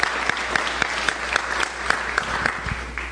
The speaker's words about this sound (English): Someone's going to applaud. Go ahead, applaud for the worship team. That's good.